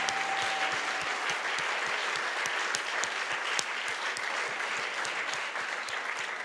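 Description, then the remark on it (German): Steady audience applause, a dense wash of many hands clapping at an even level for several seconds with no voices standing out, just a few sharper claps poking through the crackle. “Geben wir ihnen doch einen herzlichen Applaus.”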